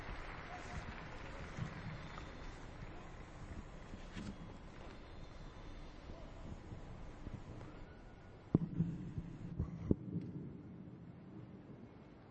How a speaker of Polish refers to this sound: Długotrwające oklaski to wyrażenie wielkiej radości za przesłanie, za orędzie wielkanocne